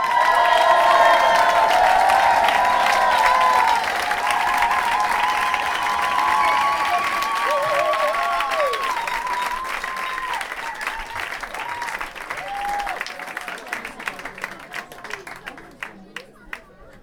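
An audience bursts into loud, sustained applause mixed with cheers and shouts for a performer doing a goguette for the first time, then the clapping slowly thins out into scattered individual claps by the end.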